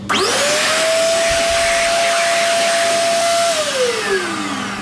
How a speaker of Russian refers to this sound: Руки выше. Вот и сушилка.